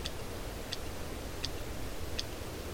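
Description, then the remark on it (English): Sperm whale (cachalot) clicks: four sharp, evenly spaced clicks in a slow, steady rhythm, sounding over a constant low, rumbling hiss of background noise. “It's a sperm whale click, sperm whale or cachalot.”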